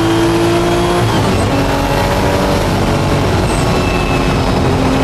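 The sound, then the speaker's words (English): A loud Porsche 935 race car engine roars steadily on a race track, its pitch stepping up and down as the driver downshifts, with flames shooting from the exhaust. There is a constant rumbling drone and no voices. “Yeah, he had a cool 935 and a little fire shot out when he would downshift his car”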